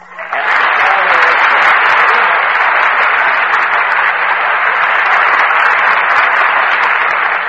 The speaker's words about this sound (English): I just start applauding myself when I'm finished, like this. Oh, now I get it.